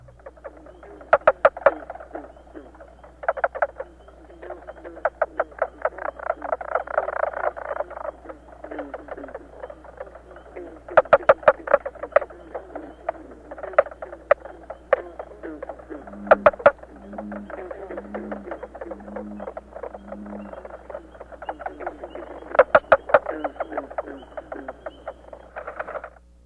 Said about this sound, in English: Next, four mink frogs call together. While their calls overlap somewhat on tape, in the field it would be relatively easy to separate each male and count them.